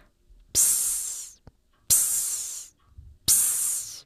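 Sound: steam hissing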